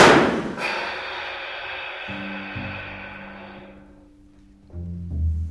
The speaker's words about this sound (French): Ça, c'est la reproduction fidèle d'un Beretta Parabellum calibre 9, le pistolet d'ordonnance des carabiniers.